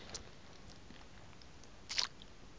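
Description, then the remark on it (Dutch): A quiet, very small bite into an orange: a faint wet click early on, then one short, moist crunch near the end, with no voices. “En dan 1 hapje in een sinaasappel waar ik helemaal niet van doorsling.”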